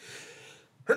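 sneeze

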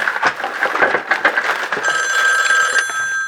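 telephone ringing

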